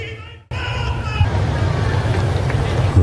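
A large crowd of pilgrims at a papal audience breaks into loud, dense applause to thank the Holy Father for his catechesis, starting abruptly after a brief sung or spoken phrase and continuing as a steady roar of clapping.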